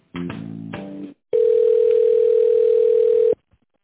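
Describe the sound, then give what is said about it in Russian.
A telephone line tone with no voices: a roughly one-second buzzy, chord-like burst, a brief gap, then a steady, unbroken mid-pitched tone lasting about two seconds before cutting off. “Звоночек вернулся.”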